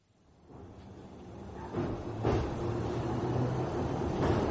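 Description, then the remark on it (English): A steady low rumble inside a moving commuter train carriage, all stainless steel and neon, on the Baker Street to Rickmansworth line in the early evening. It builds from quiet to a full roar, with occasional clunks and rattles as the car jolts along the track. No voices. “I sit on the Baker Street to Rickmansworth train, all stainless steel and neon, as we jog through the early evening, and I feel melancholy.”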